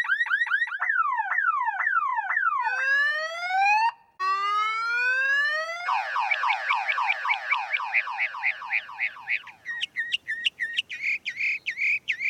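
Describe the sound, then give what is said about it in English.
A mockingbird mimics a car alarm, cycling loudly through rapid sawtooth warbles, rising and falling whoops, buzzy trills and sharp repeated beeps, each pattern lasting a couple of seconds with no talking. “The particular mockingbirds that we have at times will sound like car alarms with the rising and falling tones and the beep beep, and then at the very end you can hear the when it decides it's clicked its key to turn the sound off.”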